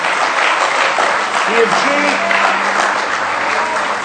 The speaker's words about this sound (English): Somebody say praise the Lord. Let's give him one more good hand clap of praise tonight.